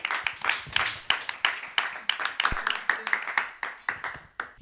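A live radio show audience applauds to welcome a columnist for her press review: many hands clapping in dense, overlapping bursts, steady and moderately loud throughout, with crisp sharp claps standing out from the crowd.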